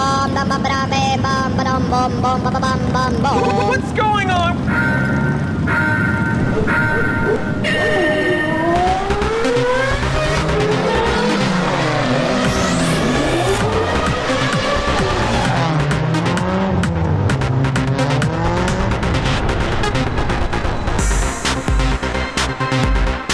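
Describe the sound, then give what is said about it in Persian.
Race cars roar past with engine whines sweeping up and down in pitch, loud and continuous, mixed with squealing tires and a dense, busy backdrop throughout. “الان میخوایم بریم سراغ زوبین جان ایستگاه اتومبیل رانی و موتور سواری.”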